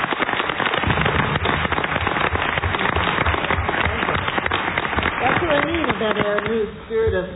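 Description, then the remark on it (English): A board of members applauds, a dense burst of clapping steady and loud for several seconds, with a few voices starting to speak as it fades out at the end. “But I think the board ought to give her a round of applause for the kind of time and effort she's put into this thing.”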